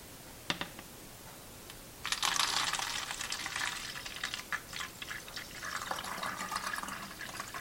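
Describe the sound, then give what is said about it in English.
A brief glassy clink, then photographic stop bath poured steadily out of a beaker back into its storage bottle, a continuous trickling splash lasting several seconds with no talking. “So I'm going to go ahead and pour this stop bath out of this beaker back into its storage bottle.”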